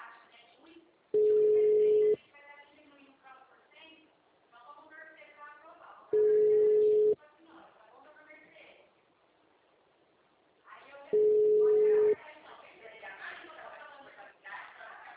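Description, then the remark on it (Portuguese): A telephone line tone of an unanswered call to an agency: a steady, low-pitched beep lasting about a second, repeating three times at even intervals while people chatter in the gaps between. “É, ninguém atende nessa agência.”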